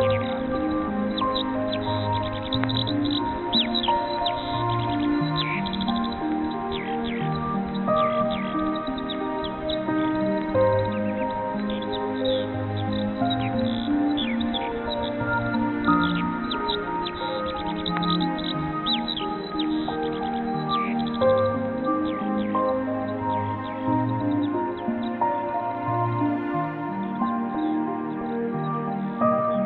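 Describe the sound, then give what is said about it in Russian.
A skylark sings nonstop from the distant spring sky, pouring out rapid, silvery trills and warbles for the whole stretch. The song is steady, with no voices. “Из далекого весеннего неба непрерывным потоком льются серебряные трели и жаворонки.”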